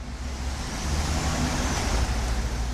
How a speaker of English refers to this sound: At this truck stop in northern Wisconsin, several dozen semis prepare to head out on the open road.